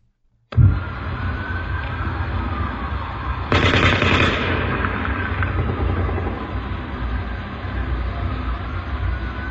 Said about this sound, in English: I think I can hear four, but at least two different people shooting. You'll hear the drone of the M60. Then you'll hear a much faster sound of the assault rifle on full auto.